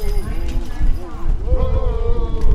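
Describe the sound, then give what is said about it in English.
Horses' hooves clip-clop steadily along a street in the opening parade of a homecoming celebration in Nicodemus, a small western Kansas town. Black men in blue uniforms portraying the Buffalo Soldiers ride them. A brisk uneven rhythm, with indistinct voices and crowd murmur mixed in underneath. “Donned in blue uniforms, the black men portraying the Buffalo Soldiers proudly steer their horses onward as their trooper carries their military flag flapping in the wind.”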